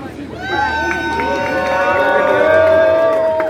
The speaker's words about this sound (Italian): Dateci soldi. applausi e poi ne riparliamo.